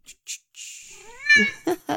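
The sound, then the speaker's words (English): A hungry cat gives a single drawn-out meow that rises in pitch and then cuts off, fairly loud. Short soft rustles come before it, with a few quick bursts afterward. “Meow, meow, meow, meow. Yes, yes, I know, you're hungry.”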